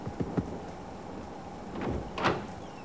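A few knocks on the wooden door of a shack in the middle of nowhere: two quick raps, then heavier thuds a moment later, over a steady hiss like rain in the background.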